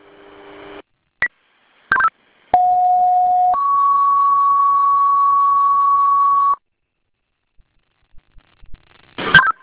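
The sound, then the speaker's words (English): A loud two-tone fire dispatch page: a steady one-second tone jumps to a higher pitch held for about three seconds, framed by short radio beeps and squelch clicks, with no talking; it calls Webster Fire to a second-alarm structure fire on Birch Island Road, toned at 21:08. “Time of tone, 2108.”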